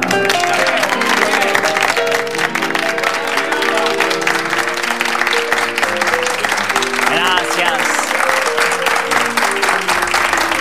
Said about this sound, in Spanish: Quiero pedir que se sacrifiquen y aplaudan a este colega mío llamado Antonio Gasalla.